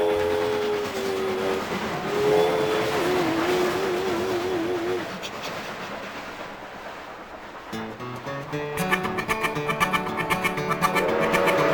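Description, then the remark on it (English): A train engine climbing a hill rumbles steadily with wavering tonal hums, then breaks into a loud, rhythmic chugging that quickens over the last few seconds. “Puffing and chugging, you know that engine will reach the summit and go down the other side.”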